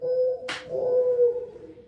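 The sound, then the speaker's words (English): A mourning dove calls with a soft, low, sustained cooing tone that holds steady pitch, interrupted briefly by a sharp breathy rush of noise early on, with no voices. “This is the morning dove.”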